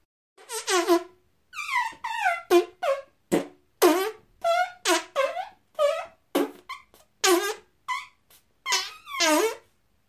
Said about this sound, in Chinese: 特意加重了浓度的麻醉臭屁，从银狐的菊穴里慢慢喷洒出来